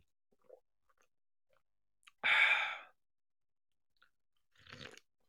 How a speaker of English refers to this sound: Raise them up high and join me in a celebratory sip of coffee in the morning.